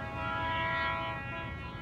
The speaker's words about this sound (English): The train whistle sounds again, a little closer now, louder.